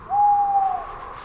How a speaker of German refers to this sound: Ein Käuzchen ruft.